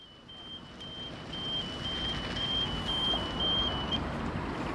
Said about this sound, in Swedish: En parkarbetare kommer körandes med en liten bil här vid Bronsgösta. En liten plätt som heter Altonaparken.